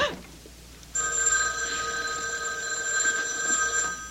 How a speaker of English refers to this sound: It was the house phone. Not my private line with the unlisted number.